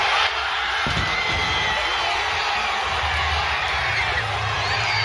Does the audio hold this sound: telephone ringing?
no